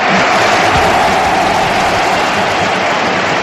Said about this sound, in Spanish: Sumaba también a los aplausos Marcelino, ¿eh?